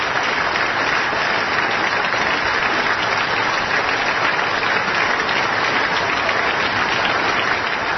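Sustained audience applause fills the whole stretch, a dense, steady wash of many hands clapping at even loudness without pause, with no voices standing out.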